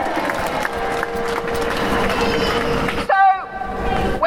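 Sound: protest crowd cheering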